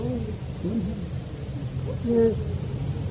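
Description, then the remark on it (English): A voice imitates an Asian koel's kuhu kuhu call: two soft, low hooting notes, the second slightly louder, over a dull background murmur. “Kokila is sitting and कुहू कुहू वो जा रही है वो कौन है?”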